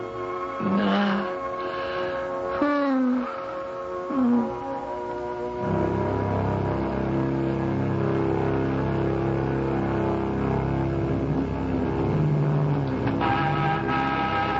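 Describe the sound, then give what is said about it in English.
After a few short tonal calls, a sports car engine rumbles in and stays steady and fairly loud as the car drives up, with no one speaking. “You still have the sports car. Get in.”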